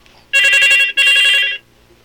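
A telephone rings in two loud bursts with a brief gap between them, a bright trilling bell tone with no voices over it.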